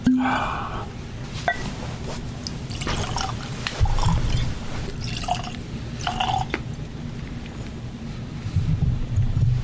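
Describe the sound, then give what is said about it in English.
Water trickles and drips into a glass of whisky, a few small splashy drops and brief pours over a low, steady rumble. “Well, shall we try it with a drop of water?”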